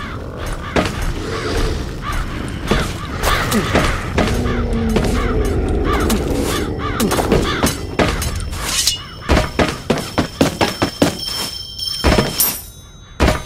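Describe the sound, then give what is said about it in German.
Several harsh crow caws ring out over a busy, clattering backdrop, followed by a run of sharp thumps and shattering crashes toward the end. No one speaks. “Schönes Krähenpack.”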